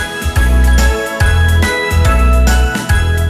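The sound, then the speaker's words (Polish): A short, loud studio chime jingle signalling that guests are in the studio plays alone, bright bell-like tones ringing over a pulsing bass beat that hits about every half second, with no voices. “Ten sygnał oznacza, proszę Państwa, że już w naszym studiu są goście,”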